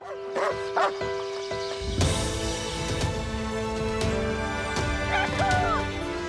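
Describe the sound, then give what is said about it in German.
A dog, Racco from the Bayerischer Rundfunk show "Racco, ein Hund für alle Fälle", gives a few short yipping barks, then whimpers and whines in rising and falling tones, fairly loud over a steady musical background. “Racco, ein Hund für alle Fälle.”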